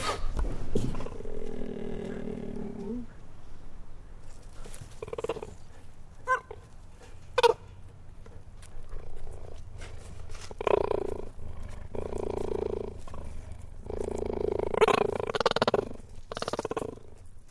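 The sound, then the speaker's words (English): A cheetah growls and purrs up close: a long, throaty growl opens, followed by short huffs and clicks, then a steady, rumbling purr swelling near the end, with no voices. “It kept responding, and it was kind of nervous, and I kept sort of slowly and gently moving into it, and I got closer and closer, and the cheetah relaxed with me.”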